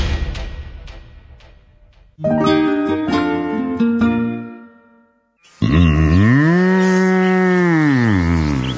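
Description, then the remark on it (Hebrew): A few soft clicks and a short run of plucked melodic notes give way to one long, loud, low moo from an Angus cow from Uruguay that swells and falls over about three seconds, with no talking. “נולדתי באורוגוואי, לזן אצילי ומשובח של אנגוס.”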